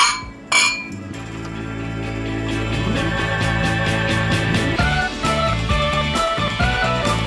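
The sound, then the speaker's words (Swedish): Glasses clink together in a toast at an after-ski gathering at Kungsberget near the start, a bright chime that rings out over a steady, tonal background with no voices. “Skål, ja, skål, skål.”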